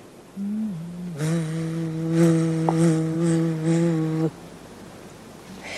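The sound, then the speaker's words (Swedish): A large bumblebee flying around on a summer day drones in a steady low buzz on the tone E, fairly loud, holding a low hum with rich overtones for about three seconds before cutting off. “Det började en sommardag med ett lågt E, med tonen E. Det var en humla, en stor humla som flög omkring.”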